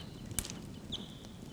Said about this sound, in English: 749 and 745 responding. Wild birds calling. Here comes one. Flying away from the tree and then back.